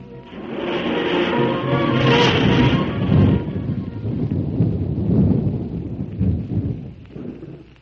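nature, thunderstorm with rolling thunder

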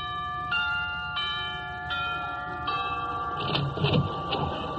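household object, doorbell ringing

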